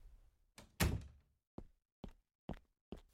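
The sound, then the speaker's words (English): A door closes shut with a loud, heavy thud, followed by a few sharper knocks or clicks spaced about half a second apart. “He smiled at her a few seconds, but then let it fade from his face, fixing her with a serious glare as he closed the door.”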